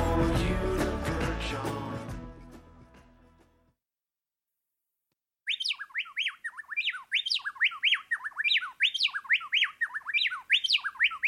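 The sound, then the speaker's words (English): A music outro fades to silence, then a plain-tailed wren, recorded in Ecuador, sings a rapid, complex song of rising and falling whistled phrases, repeated rhythmically, clear and loud for several seconds. “The amazing song of the plain-tailed wren there, recorded in Ecuador by Theodore Parker, one of the most complex bird songs in the world.”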